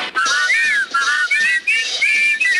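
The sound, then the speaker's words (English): A loud, warbling whistled bird call imitating the 'titter bird', repeated in about five quick rising-and-falling phrases with a bouncy rhythm, high-pitched and alone with no talking. “You just heard the titter bird jiving in a jumping key.”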